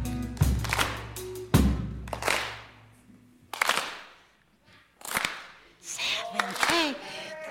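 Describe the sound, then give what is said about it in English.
An audience does the soul clap, clapping together on the beat without any music in a slow, steady rhythm, each loud unison clap ringing out briefly before the next; a voice calls out over the claps toward the end. “Clap. Clap. Clap. Good. Nice. That's called the soul clap.”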